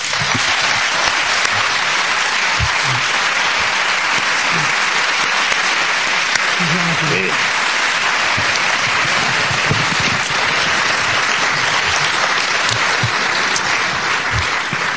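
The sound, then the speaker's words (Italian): Sustained grateful audience applause saluting and thanking a speaker fills the whole stretch, a dense, steady wash of many hands clapping at an even, loud level with no pauses and no voices standing out. “Bene, con questo applauso riconoscente salutiamo Enzo, lo ringraziamo di nuovo e grazie a tutti voi.”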